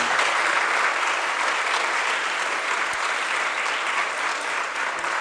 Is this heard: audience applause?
yes